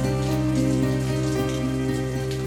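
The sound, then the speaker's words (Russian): Steady rain pours without pause, a dense even patter that stays at one level throughout, with a sustained musical tone humming underneath. “Дождь льет, все льет, льет, который час подряд.”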